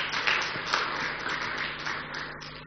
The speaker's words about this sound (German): So, ein Dank an den Lobpreisteam. Ein Applaus, sie verdienen das.